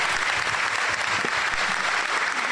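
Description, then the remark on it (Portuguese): Sustained applause for new officers from a crowd, a dense steady wash of many hands clapping at an even, fairly loud level throughout, with no voices standing out. “Aliás, queria pedir aqui, começando, uma salva de palmas para vocês, novos oficiais.”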